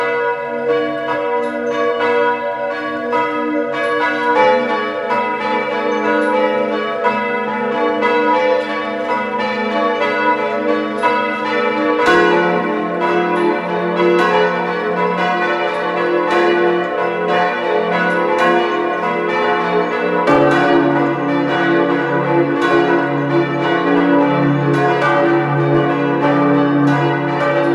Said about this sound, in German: Es ist 12 Uhr. Sie hören die Glocken der Pfarrkirche St. Martin zu Feistritz an der Gail in Kärnten.